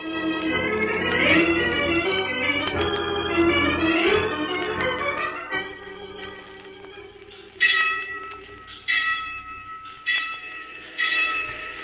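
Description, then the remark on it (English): A train rumbles closer with a dense, rising blend of tonal whistle-like tones, then a horn sounds in four loud, sustained blasts separated by short gaps. No one speaks. “There's a train coming, Bates.”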